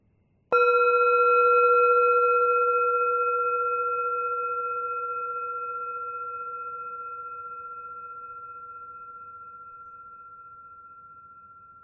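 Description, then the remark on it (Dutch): A single meditation bell is struck once to begin a walking meditation, giving a clear, pure ringing tone with steady overtones that sustains and fades slowly over about eleven seconds, with no voices. “Als je de bel hoort, begint de loopmeditatie.”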